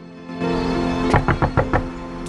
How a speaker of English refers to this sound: Candice waits outside Vance's front door. He opens it.